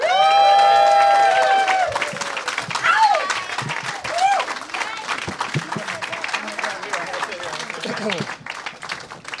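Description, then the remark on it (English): A live audience breaks into loud applause to welcome four guests, with sustained whoops and cheers at the start, then a dense patter of clapping and scattered shouts that slowly tapers off. “Please give it up for”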